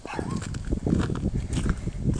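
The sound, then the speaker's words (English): Footsteps crunch through icy slush at a steady walking pace, each step a gritty, wet burst over a constant low rumble of wind, on a windy, freezing 30-degree day. “You can hear the crunching, I'm sure. It's slushy.”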